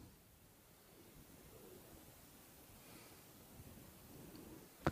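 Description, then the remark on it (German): Soft, steady wash of ocean surf, gently swelling and receding, with no voices present; a brief crackle sounds right at the end. “Und du kannst so lange in dieser Ruhe in dir bleiben und mit den Wellen mitatmen, wie es dir gut tut.”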